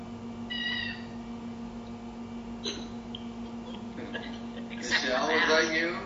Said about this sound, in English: The kittens just woke up. It was either Salt or Pepper, one or the other. It was Pepper.